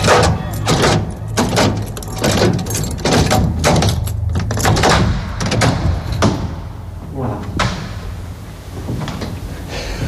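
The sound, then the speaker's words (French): A door is pulled shut and a key turned several times in the lock to close it completely, a series of sharp clicks and knocks for several seconds over a low hum, with faint voices in the background. “Pour fermer la porte complètement, il faut faire avant, 3, et puis 6.”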